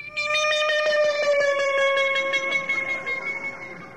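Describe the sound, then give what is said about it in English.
A train horn blares in one long, loud, steady chord held for about four seconds, its pitch sagging slightly, with faint rapid clicking running underneath. “This is what he heard, and if you know anything about trains, you know what this sound is.”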